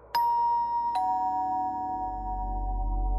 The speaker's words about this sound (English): She was about to attempt an answer when the doorbell rang.